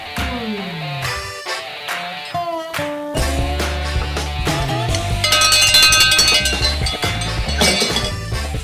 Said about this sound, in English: I love those cowbells, those real cowbells, because that is a real cowbell. That one actually hung around the neck of the bell cow of somebody's herd somewhere, someplace, maybe as far back as the late 1800s.